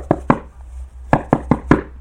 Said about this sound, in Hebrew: פתאום שמעו, והנה קול דופק בפתח.